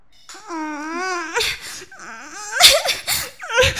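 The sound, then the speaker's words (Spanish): A woman wakes up crying: a long, wavering wail, then choppy sobs and sharp gasping breaths, fairly loud, with no words spoken. “se despierta llorando.”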